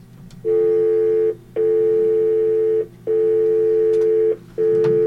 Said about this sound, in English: I'm sure you're playing a dial tone for a reason